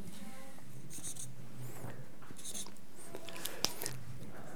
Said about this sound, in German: Ich male jetzt 9 Punkte. Könnt ihr das sehen? Ist das auch von hinten gut zu sehen?